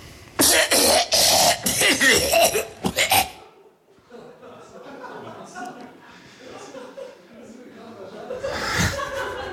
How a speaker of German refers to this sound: Huster 11. Das waren sie, die 11 Huster.